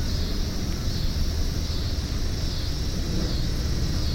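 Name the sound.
airplane passing overhead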